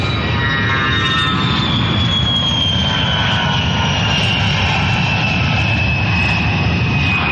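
A propeller airplane engine drones loudly and steadily throughout, a continuous roar with a faint high whine that slowly drifts in pitch. No voices are heard.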